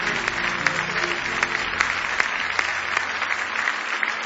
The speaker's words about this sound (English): Give Jesus a big hand clap of praise if you love him.